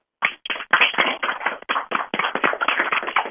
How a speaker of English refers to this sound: I want everybody, I'm going to unmute the lines, I want everyone to give a round of applause for our special guest tonight, Barry Morrow. Just a moment. Okay. We are unmuted. Let's go, guys.